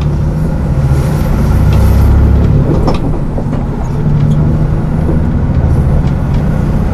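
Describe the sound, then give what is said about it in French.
Loud, steady engine rumble and road noise from inside a moving bus travelling from the Pointe des Poulains to Le Palais, continuous for the whole stretch with small rattles and shifts but no voices. “De cette pointe des Poulains où nous sommes arrivés depuis Sauzon en longeant la côte, nous allons reprendre le bus pour rejoindre le palais.”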